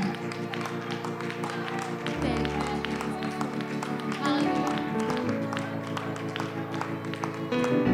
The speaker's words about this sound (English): Let's give God a hand clap of praise as the ushers come.